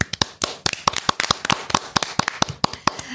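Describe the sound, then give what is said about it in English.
A short burst of applause: sharp, irregular hand claps from a few people, fairly loud, with no talking over it. “Oh, I am ready to give a round of applause.”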